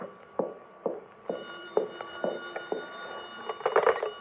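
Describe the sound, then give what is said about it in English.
A telephone rings with a steady, buzzy electric tone, broken by a quick series of sharp clicks or taps at regular intervals. It is moderately loud, with no one speaking. “The phone. Well, I'm not going to answer it. Well, go ahead and answer it, baby.”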